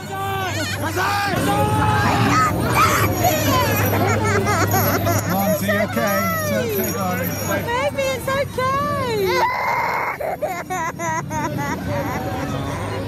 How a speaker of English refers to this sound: Crying children, including my own. That's a lot of screaming and terror for a Santa parade.